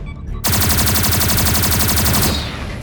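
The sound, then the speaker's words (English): A loud, sustained burst of rapid automatic gunfire erupts suddenly in a corridor as Zadorian forces advance firing, the shots rattling in a dense, steady rhythm for about two seconds before cutting off into a fading echo. “At the far end of the corridor, doors to an elevator open, and Zadorian forces pour out, advancing and adding to the fire upon them.”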